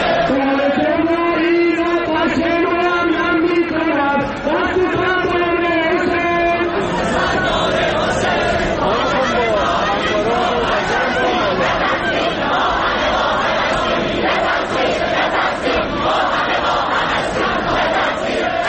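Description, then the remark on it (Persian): A large crowd of Shahid Beheshti University students chants in unison in protest at a ceremony for those killed on the downed Ukrainian passenger plane, rhythmic shouted phrases rising and repeating, then dissolving into a loud, continuous roar of overlapping voices and shouting. “از دانشجویان دانشگاه شهید بهشتی به مراسمی که از سوی بسیجی‌ها این دانشگاه مشخص نشد، چون چیزی که می‌نوشتن در رابطه‌اش می‌مدون متفاوت بود، برای کشته شدگان هواپیمای سرنگون شده مسافربری اوکراینی برگزار شده بود، اعتراض کردند که صدای اون رو با هم می‌شنویم.”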